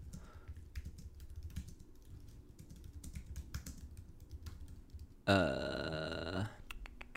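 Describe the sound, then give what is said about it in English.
Quick, irregular clicks of typing on a computer keyboard as someone looks up the number of episodes of a series, tapping away for several seconds, then a short, loud, throaty burp-like sound briefly takes over before a few final keystrokes. “You're gonna hear my typing as I look this up.”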